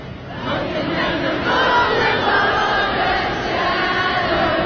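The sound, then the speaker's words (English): A large crowd sings together with no instruments after the power went out, a loud, sustained wall of many voices holding a melody, with a dense roar of voices steady throughout. “Yeah, there's the power went out. I mean, the crowd just continued. Yep, they all know it.”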